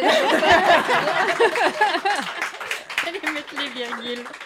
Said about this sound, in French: Merci d'avoir applaudi. Merci, merci beaucoup.